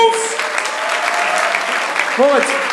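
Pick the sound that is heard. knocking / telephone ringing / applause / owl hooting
applause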